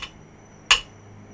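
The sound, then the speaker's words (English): A cane is picked up and tapped lightly once against the floor of a temple, a short, sharp knock with a bright edge, preceded by a fainter click. There is no talking, only quiet background hum. “Mattathiah picks up his cane and taps it lightly on the floor.”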